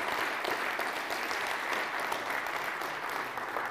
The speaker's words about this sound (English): As a church, please, can we just give them a round of applause? Thank you.